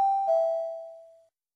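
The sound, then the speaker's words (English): A two-note electronic chime, a higher ding followed quickly by a slightly lower dong, rings out clearly on its own and fades away smoothly within about a second; it is the prompt tone in a listen-and-speak language exercise, signalling the listener to speak. “Listen and speak after the tone.”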